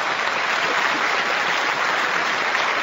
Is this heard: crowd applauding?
yes